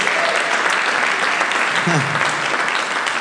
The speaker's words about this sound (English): And give the Lord a big hand clap.